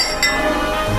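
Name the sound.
glasses clinking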